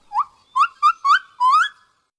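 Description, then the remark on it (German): Five short, squeaky whistling calls from a Sardinian pika, the last of its kind, in the forest of Jacopio on Sardinia in spring 1799, each rising slightly in pitch, spaced irregularly with brief pauses, the last one longer. Clear, with nothing else around. “Im Frühling 1799 schickt der letzte sardische Pfeifhase einen einsamen Ruf in den Wald von Jacopio auf Sardinien.”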